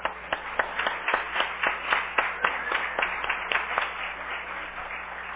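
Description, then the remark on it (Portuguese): An audience at a city council session applauds a teacher, with a dense wash of clapping and sharper individual claps popping out at a regular rhythm, sustained without any voices throughout. “e eu queria que da tribuna receber o senhor com uma salva de palmas.”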